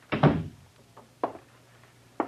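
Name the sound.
door being closed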